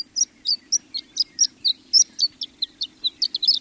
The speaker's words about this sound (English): the horned lark of western Washington is severely threatened. It maintains a small foothold in coastal dunes, but human infringement has all but eliminated this bird west of the Cascades.